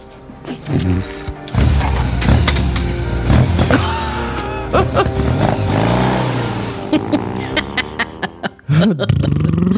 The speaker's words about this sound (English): I had to keep the excessive motorcycle noise in there.